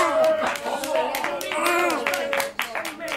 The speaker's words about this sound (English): This is men's renal. Septuagenarians in stripy pyjamas rise up from their beds and cheer.